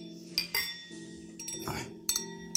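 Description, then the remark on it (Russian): Several glasses clink together in a toast to Khodasevich, bright ringing taps scattered over a couple of seconds, with a soft low background hum and no talking. “Давайте, несмотря на печальную ноту в финале нашего, так сказать, разговора про Ходосевича, все равно за него выпьем, чокаясь.”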